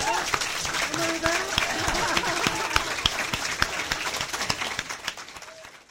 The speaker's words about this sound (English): How about some applause for our candidate?